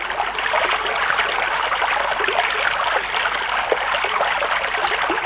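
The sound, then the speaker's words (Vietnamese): A steady stream of running water babbles and trickles continuously, fairly loud, with a dense splashy hiss and no voices. “Chẳng bao lâu sau, họ nhìn thấy một con suối khác.”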